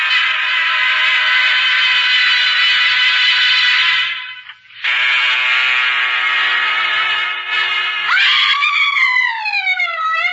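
A woman in a cabin screams loudly as she throws herself on the floor: two long, sustained shrieks split by a brief gap, then a wavering, warbling cry. No other sounds or talk.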